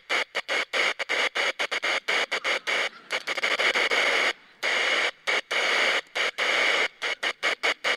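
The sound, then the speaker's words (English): A wind-up radio's loud hissing static is switched on and off repeatedly, making short and long bursts in an irregular, Morse-like rhythm, with no one speaking. “This isn't the actual radio, but so I use this to demo it because it won't run out of batteries. It's a wind-up radio.”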